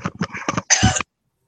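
cough

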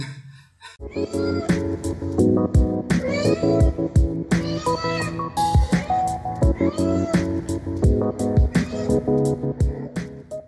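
cat meowing

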